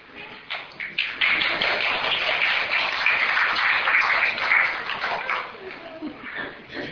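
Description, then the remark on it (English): An audience applauds, a dense wash of many hands clapping that swells within a second, holds steady for several seconds, then thins out toward the end. “And I thank you for your applause.”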